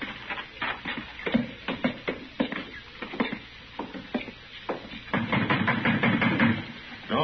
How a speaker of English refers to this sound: Banging on the door.